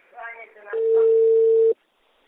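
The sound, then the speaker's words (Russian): A person speaks briefly, then a loud, steady telephone tone holds for about a second before cutting off abruptly, with a bit of voice overlapping its start. “Алло, да хватит уже звонить.”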